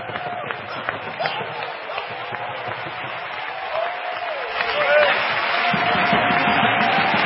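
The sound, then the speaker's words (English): An audience claps hands together in praise of the Lord at an evening church service, a dense, steady burst of applause with voices and cheering mixed in; the clapping swells louder toward the end and continues without pause. “Give the Lord a hand clap of praise and worship Him this evening.”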